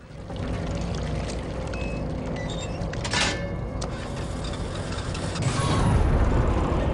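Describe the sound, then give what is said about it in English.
Water splashes and churns steadily as the rope from a buoy is hauled up and a fluorescent pink buoy ball is dragged on board a boat, with a sharper splash partway through and a heavier, deeper surge of water near the end. “Above them, the rope from the buoy splashes the water as the fluorescent pink ball is dragged on board.”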